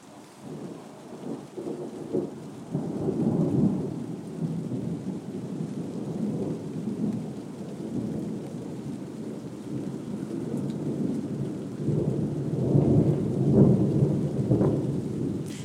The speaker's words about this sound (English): See this thunder. It's very odd. You think it's not going to come to much, and then suddenly it gets really that kind of loud and low sounding sort of.